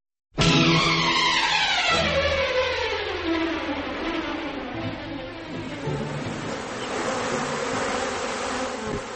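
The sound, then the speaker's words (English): Honeybees buzz loudly and continuously, a dense droning hum whose pitch glides downward at first and then wavers unevenly throughout, with no voices present. “Colony collapse disorder first struck honeybees in the United States in late 2006.”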